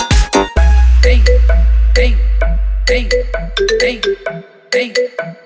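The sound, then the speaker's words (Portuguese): A mobile phone ringtone plays loud, a bright electronic melody of quick chiming notes repeating in a bouncy pattern, opening with a deep bass hit and no voices. “Mó cara de pau de agora me ligar.”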